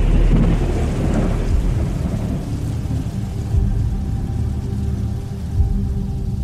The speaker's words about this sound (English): April 1st, violent storm almost all night.